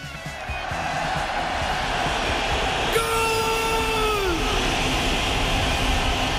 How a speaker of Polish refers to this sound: A ten sygnał na naszej antenie oznacza, że przechodzimy do magazynu Wielkopolskie Gole.